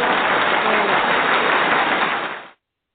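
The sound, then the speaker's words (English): A steady burst of audience applause welcoming a guest onto the Lizzie T. Radio Show, dense and loud with a fine crackling texture, holding level for about two and a half seconds before cutting off abruptly into silence. “Let's bring her with a wonderful round of applause.”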